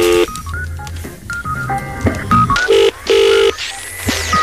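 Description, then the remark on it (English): A rapid run of telephone keypad tones as a phone number is dialed to reach someone within the BBC, short beeping pairs in quick succession, some slightly longer, clear with no voices. “Here we go. Dial the number.”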